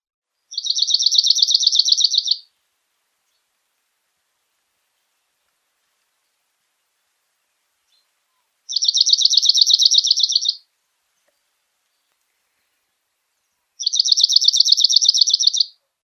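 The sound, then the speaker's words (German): A cirl bunting sings three short, simple bursts of rapid high-pitched notes, each about two seconds long and separated by long silences, within a sequence of about 16 seconds, heard clearly with no other sounds. “Hier diese Sequenz nennt man diesen Abschnitt, also der ungefähr 16 Sekunden gedauert hat, was der Vogel da gesungen hat.”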